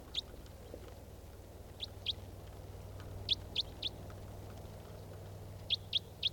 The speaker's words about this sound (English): There's a wild bird.